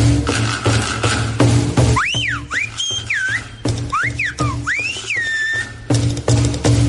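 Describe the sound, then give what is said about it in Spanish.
Loud, piercing whistles of the Silbo Gomero whistled language sweep up and down in several quick, speech-like phrases, with short pauses between them over a steady low background hum. “Este martes 1 de octubre celebramos el 10º aniversario de la declaración del Silbo Gomero como Patrimonio Inmaterial de la Humanidad.”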